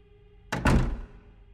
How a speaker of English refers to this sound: She flinched and stepped back into her apartment, swinging the door shut.